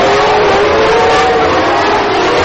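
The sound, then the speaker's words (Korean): Twenty-four Formula One race cars roar loudly and continuously at the Korea International Circuit in Yeongam, South Jeolla Province, South Korea, during the Korean Grand Prix, a dense high-pitched engine whine holding steady with no gaps, as if several cars are screaming past. “엄청난 굉음을 내며 달리는 24대 자동차들이 한국 전라남도 영암 포뮬러원 코리아 그랑프리 국제 경기장을 질주하고 있습니다.”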